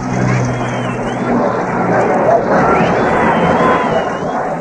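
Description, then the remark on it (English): A huge crowd in Central London roars in celebration of VJ Day, a dense, continuous wall of cheering and shouting voices that stays loud and steady throughout, with a faint low hum beneath. “And as for the noise of it, well, listen for yourselves to Central London VJ Roar.”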